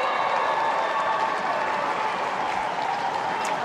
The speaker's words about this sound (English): So Kate Lutkins, the best on ground award, as the cheer squad behind the goals for the Brisbane Lions erupts. As the Auskickers get ready to present the medals here at the Adelaide Oval.